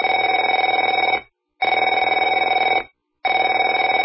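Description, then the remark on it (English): A telephone rings in three loud, steady bursts, each about a second and a quarter long with short silent gaps between, a buzzy trilling tone with no voices. “Afraid to answer it?”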